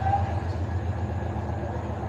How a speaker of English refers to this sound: You can hear a train chugging into town. The train tracks about 20 feet beyond the left field wall.